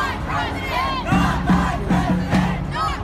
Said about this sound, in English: Some 4,000 angry demonstrators over Trump's election victory taking to the streets. Officers in front of thousands of protesters in what police called a riot. Setting fires, taking their frustrations out on cars and buildings.